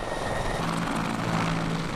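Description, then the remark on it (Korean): A helicopter used in rescue dog training: its rotor thrums steadily over a dense, roaring engine whine, loud and continuous throughout, with a low hum running beneath. “게다가 구조견들은 헬리콥터 훈련도 받습니다.”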